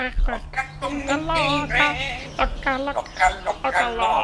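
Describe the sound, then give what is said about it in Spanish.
A parrot chatters in a run of speech-like squawks and warbling whistles, several quick bursts with brief gaps, fairly loud and alone. “Venga, a ver, el loro, por favor. El loro y cerramos ya.”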